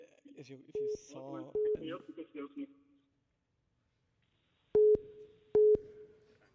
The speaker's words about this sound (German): Man hört ein Freizeichen.